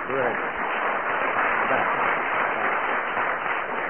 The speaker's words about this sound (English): So can we have a round of applause for our two adjudicators?